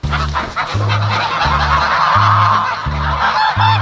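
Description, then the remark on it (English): A flock of farm geese on the Goldshaw farm honks loudly and continuously, overlapping calls forming a dense, noisy chorus with a repeating pulsing rhythm. No one speaks. “Gold and his wife, Allison Gold Ibrahimi, have also been raising geese on their Goldshaw farm.”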